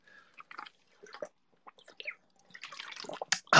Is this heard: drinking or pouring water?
yes